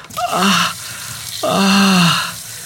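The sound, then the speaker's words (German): Cold tap water runs steadily into a sink with a soft, continuous hiss as a person cools fingers burned on an oven, letting out two drawn-out groaning sighs over it. “Da drüben ist das Waschbecken. Schnell hin zum Fingerkühlen mit ganz viel kaltem Wasser.”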